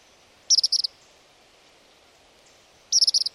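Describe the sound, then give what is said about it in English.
A tropical kingbird gives two bursts of high, rapid twittering notes, each a quick stuttering series of about six sharp chips, separated by a pause of a couple of seconds over faint background hiss. “This is a sound Northwesterners are not used to hearing. It's a tropical kingbird.”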